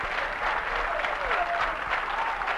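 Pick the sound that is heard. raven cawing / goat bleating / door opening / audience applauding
audience applauding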